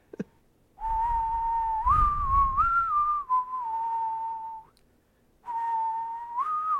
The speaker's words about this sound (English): Maybe better if I whistled it, if I can whistle it. I'm probably going to fuck up whistling now that I'm on spot.